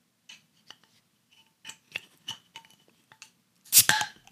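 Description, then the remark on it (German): A beer bottle being opened with the owner's most expensive bottle opener: a few light metallic clicks and scrapes as the opener is fitted, then a sharp pop of the cap with a brief fizzing hiss. “Vor allem hast du das Bier mit dem wohl teuersten Flaschenöffner, den ich jetzt besitze.”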